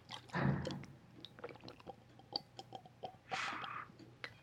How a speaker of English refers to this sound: I have one, but people think it's a bong the way it sounds. Here, listen. People think this is a bong when I drink. Tell me if it sounds like a bong.